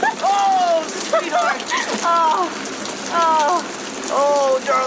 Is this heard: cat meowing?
no